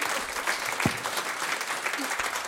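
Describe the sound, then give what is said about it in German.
An audience applauds the musicians steadily, a dense wash of many hands clapping at an even, sustained level for the whole stretch, with a few brief low thumps mixed in. “Vielen Dank und großen Applaus für diese großartigen Musiker hier.”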